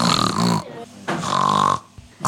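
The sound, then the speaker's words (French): A person reading a children's story imitates a pig's oink for the puppy Georges with two loud, nasal snorting grunts separated by a short pause, and a third grunt just beginning as it ends. “Les cochons font... mais les chiens font ouf.”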